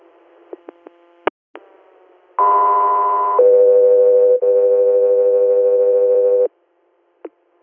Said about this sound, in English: Echo 3 Air, stand by for tones.